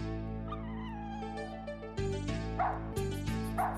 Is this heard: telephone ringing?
no